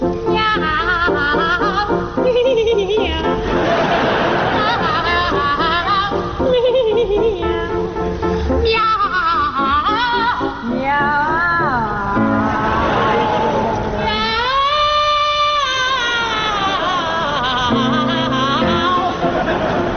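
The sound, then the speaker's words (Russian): Sopranos Ann Murray and Felicity Lott sing Gioachino Rossini's famous comic cat duet, trading sliding, meow-like phrases that imitate cats, sustained and loud with vibrato throughout, backed by steady accompaniment. “Видимо, однажды, мартовской ночью, кошачий концерт не давал уснуть Джакомо Россини, и он сочинил знаменитый кошачий дуэт. Слушаем его в блистательном исполнении двух прославленных сопрано – Энн Мюррей и Фелисити Лот.”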